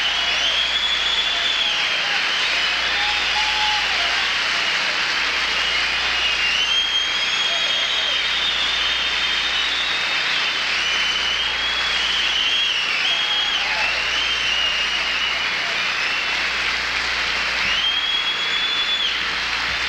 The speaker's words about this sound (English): Let's give George Carlin a great hand for coming out of the hospital to do this show tonight.